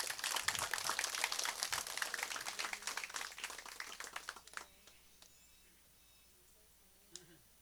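Steady audience applause with dense, rapid clapping for about four and a half seconds, then tapering off into quiet with a few scattered claps near the end, as the audience welcomes a singer from Veracruz before she performs.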